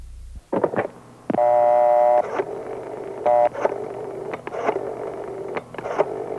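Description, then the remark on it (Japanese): Telephone dialing tones as someone repeatedly places calls: a long steady electronic beep, then a shorter one, with scattered clicks and a low hum between them, and no voices. “何度も電話をかけました。”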